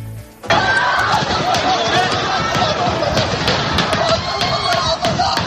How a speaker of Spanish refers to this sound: Las imágenes son brutales, todos corriendo cuando se han empezado a escuchar los impactos.